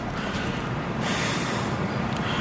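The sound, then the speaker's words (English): A man hawks up a loogie mid-sentence: a harsh, gurgling hawk of phlegm from the throat, a rough, noisy rasp that carries on for about two seconds and turns louder and grittier halfway through, with no talking. “because of the admirable amount of loogies he is able to hawk mid-sentence at any given moment.”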